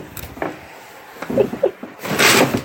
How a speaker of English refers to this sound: And there's banging behind the door. I'm sorry, what did you say? And I'm narrating you going into your room and banging around.